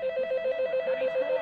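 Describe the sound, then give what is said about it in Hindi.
A telephone bell rings continuously with a rapid, trilling clatter, steady, with no voices over it. “तुम्हें सुनाई नहीं दे रहा है कि फोन है?”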